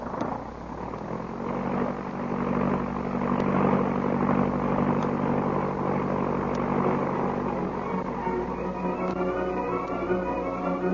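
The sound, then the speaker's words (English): A propeller plane's engine roars in a loud, steady drone, its pitch climbing toward the end as it throttles up for takeoff, with no voices over it. “Well, get in the plane. All right. Boss, I get in. All set? May we? We're off.”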